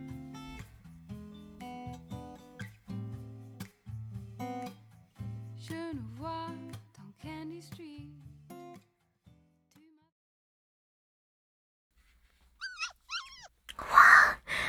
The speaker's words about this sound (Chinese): 好多狗啊，感觉都好可爱。